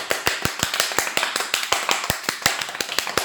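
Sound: applause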